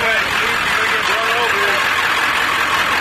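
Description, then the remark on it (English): Steady rumble of idling car engines and slow-moving traffic on Thompson Pass, a continuous even drone with faint indistinct voices mixed in underneath as officers direct people to safety. “The sounds of unloading skis and bikes quickly turned into sounds of slow-moving traffic and officers directing people to safety.”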